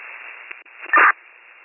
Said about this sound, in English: There was static and radio traffic and just information.